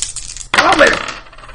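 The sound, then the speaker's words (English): A short burst of dice clattering onto a hard tabletop as a player rolls to see if they got a burn, a bright rattling tumble that quickly settles and fades over about a second, with no voices. “Well, I'm going to see if I got a burn. Go ahead, roll.”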